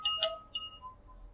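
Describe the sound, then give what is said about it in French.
A pen stirring milk in a glass to mix it, giving two bright, ringing clinks against the glass in quick succession, followed by a faint fading tone and quiet, with no talking. “dans le lait, il suffit de touiller un petit peu pour que ça se mélange”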